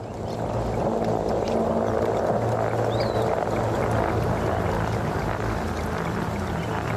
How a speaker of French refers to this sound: Nous l'entendons, voilà, au fond, ce sont les bruits de la forêt, captés depuis les années 50